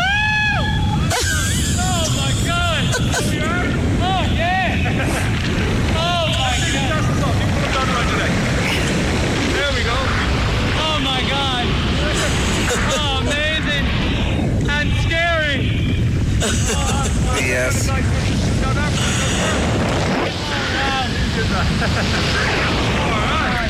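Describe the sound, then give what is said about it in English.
Strong, roaring wind buffets the microphone throughout, with repeated high-pitched screams and excited yelling cutting through, loud, during a skydiving free fall from a plane at 15,000 feet, falling at 200 kilometers per hour. “15,000 feet, traveling at 200 kilometers per hour, dropping from the sky. That's me. Is that you? Are those high-pitched screams, are they yours?”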